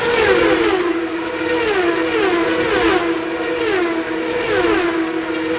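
Loud, high-pitched racing engines whine and surge continuously, their pitch rising and falling repeatedly as race cars speed past on a street circuit in downtown Long Beach, California, by the Pacific Ocean. No one speaks.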